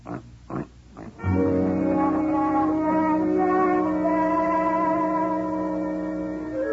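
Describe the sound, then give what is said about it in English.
A pig, Mr. Yun, gives a few short, quick grunts, then lets out one long, drawn-out oinking squeal that holds steady for several seconds with a faint echo, loud, with no talking. “Yun's husband happens to be a pig.”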